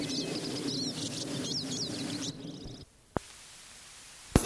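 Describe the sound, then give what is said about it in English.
A sparrow sings a quick run of high, chirpy notes over steady low background hiss. The song stops about halfway through, leaving near-quiet broken by a couple of sharp clicks. “My good sparrow number one is singing again.”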